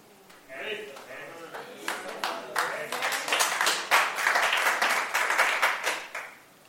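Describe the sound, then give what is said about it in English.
An audience breaks into applause, many hands clapping in a dense, crackling patter that builds over a few seconds, holds steady, then quickly fades out. “I hope the clap will be followed by not sending WhatsApp messages anymore.”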